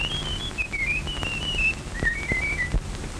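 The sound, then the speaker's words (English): A man whistles a short melodic tune, clear, with wavering pitched notes rising and falling over a low background rumble and no talking. “No two men could ever whistle exactly like that.”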